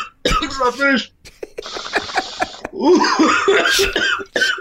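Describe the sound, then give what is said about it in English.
Harsh, raspy coughing after a bong hit erupts in several rough, loud bursts, mixed with strained voice sounds and a brief hissing, crackly stretch before the hacking fit. “I thought you weren't supposed to cough.”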